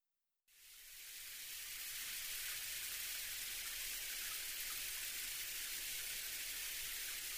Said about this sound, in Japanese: 先にシャワー浴びてくるね。